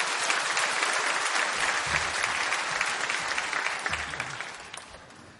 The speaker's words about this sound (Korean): 귀한 강사 목사님 보내주신 하나님께 감사의 박수 올려드리며 강사 목사님을 맞이하겠습니다.